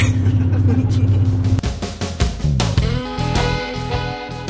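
A steady, loud low rumble of a car's interior while driving, with engine and road drone filling the background and muffled voices or sounds shifting on top.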